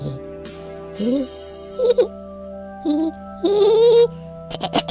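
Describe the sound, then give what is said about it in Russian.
A person's voice imitates birds chirping in a series of short, warbling vocal bursts separated by brief pauses, fairly loud, ending with a quick flurry of choppy chirps. “Расселись по веточкам, понимаешь, и начинают так вот чирикать.”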